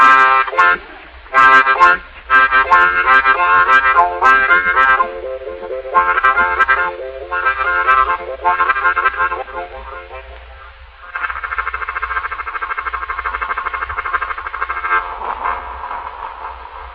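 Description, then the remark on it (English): A man's voice imitates a railroad car stopping at a depot, pulling out of the depot and over a railroad bridge into the distance, on the Pennsylvania railroad: sharp toots, then rhythmic, reedy chugging bursts, settling into a long, steady, buzzing whistle-like tone that holds to the end. “I'm trying a car stopping in a railroad depot, going outside of the depot and over the railroad bridge and in the distance.”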